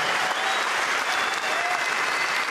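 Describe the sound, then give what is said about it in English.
A large crowd in the stands at the British Open golf tournament applauds steadily, a dense, even wash of clapping with some cheering mixed in, holding at a loud level throughout without a break. “Let's hear it for you guys.”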